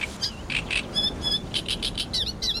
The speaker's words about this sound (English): And they weren't just seabirds like gulls. They were land birds that don't frequent the high seas, apparently catching their breath on the boat and then resuming their epic journeys.